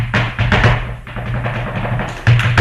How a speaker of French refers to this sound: Le rythme des talons sur le plancher résonne dans tout l'établissement, signe que tout doucement, l'école de danse Amor de Dios, située dans le populaire quartier de Lavapiés à Madrid, reprend ses activités.